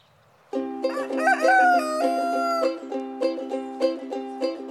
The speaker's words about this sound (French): Nous voilà dans la basse-cour. Entends-tu le coq ?